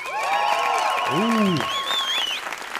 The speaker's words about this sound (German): Dann euer Applaus